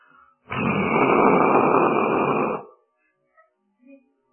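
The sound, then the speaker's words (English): A steady, loud rushing roar of Niagara Falls, heard from a boat drifting on the Niagara River, lasts about two seconds, starting and stopping abruptly, followed by a couple of faint brief sounds. “The falls. It's the falls.”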